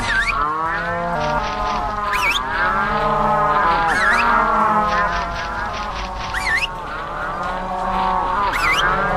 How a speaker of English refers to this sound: Some cows peacefully cross a meadow, but it's now time to take them back to their